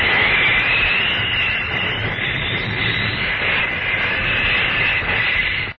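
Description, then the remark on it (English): A steam locomotive roars past, loud, in a continuous hissing, rumbling rush with no voices, holding steady for several seconds before cutting off abruptly, in the opening of The Adventures of Superman. “More powerful than a locomotive.”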